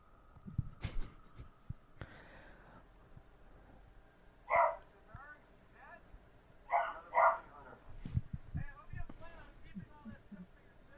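A small dog barks a few times in short, sharp bursts, with one bark and then a quick pair close together, against quiet background noise and faint murmuring.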